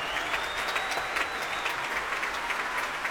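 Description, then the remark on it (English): Sustained, dense applause from a large concert audience for an orchestra of more than 100 players under John Adams after a Respighi performance, with soloists and principal players standing, steady and fairly loud throughout, with many overlapping claps forming a continuous roar and no speech. “There must be, more than 100 people on stage, all of them worthy of a cheer, but some of them getting a little bit more of a moment in the spotlight.”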